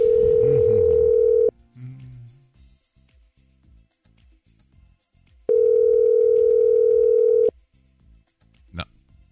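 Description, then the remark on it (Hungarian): A steady, mid-pitched telephone tone sounds loudly as a call is placed to the listener of the day, coming in two long bursts a few seconds apart, with faint murmuring and a brief click in the gaps. “Na, hívjuk gyorsan a nap hallgatóját.”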